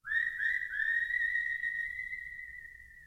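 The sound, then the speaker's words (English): A clear, sustained whistled melody with smooth gliding pitch at the opening of a song, carried over a soft low instrumental backing, steady and fairly loud for about three seconds. “And the animated critters are kind of echoed by the whistling that we'll hear at the opening of this song.”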